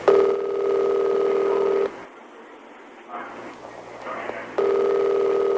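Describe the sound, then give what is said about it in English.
A steady electronic telephone ringing tone sounds over a recorded phone call, breaks off for a few seconds of muffled line noise, then rings again at the same loud, even pitch. “you got the tape, right? Yeah, this is one of the phone calls for the Badoo.”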